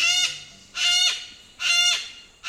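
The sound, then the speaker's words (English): Harsh, raspy screeches from a yellow-crested cockatoo, repeated about three times in a steady rhythm, loud, with a fourth call starting at the end and no voices. “Yellow-crested cockatoos are victims of their own charisma. Talkative and sociable, they stand over a foot tall, with snowy white plumage and a showy yellow crest.”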